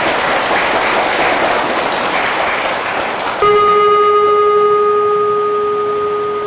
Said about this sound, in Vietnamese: Nếu không có thì các con hãy cho một tràng vỗ tay thật lớn để đội được làm.